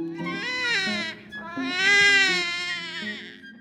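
baby crying

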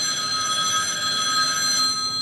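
telephone ringing

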